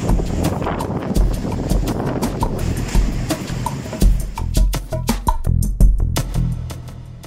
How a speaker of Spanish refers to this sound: Acojonante. El mar llega a las casas.